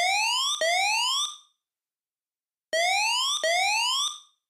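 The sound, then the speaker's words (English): A loud siren wail in two bursts, each made of rising tone sweeps, separated by a short silence, used in a music track at a dramatic beat switch. No voices, just the piercing alarm tone. “Most notable about this change in musical atmosphere is the use of a siren.”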